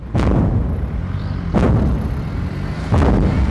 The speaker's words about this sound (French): Bakhmout, le fracas des départs d'artillerie, mais aussi le sifflement et l'explosion des arrivées.